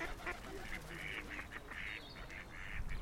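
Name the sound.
ducks quacking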